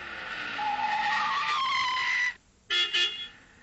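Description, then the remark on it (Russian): A car pulls up at a house at night with a loud, drawn-out squeal of braking tires and stops, followed after a brief pause by two short honks of its horn as a signal to those inside, with no voices. “И вот он подъехал к дому по нужному адресу.”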